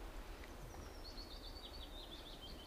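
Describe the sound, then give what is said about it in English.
A bird chirps in a thin, high warbling line that runs through most of the moment, fairly faint above a steady low outdoor rumble, with no one speaking. “Look at this bird, it's happy now.”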